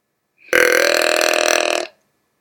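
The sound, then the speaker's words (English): A white-tailed deer snorts air through its nose: one loud, harsh, rasping blast lasting over a second, starting abruptly and cutting off cleanly, with silence around it and no voices. “Well, that is the snorting of air through his nose.”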